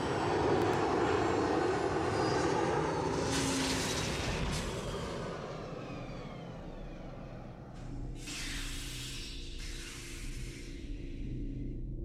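A ship coming in to land: a steady, loud engine roar with two surges of sharp, high hissing, like venting thrusters, easing slightly toward the end. No voices.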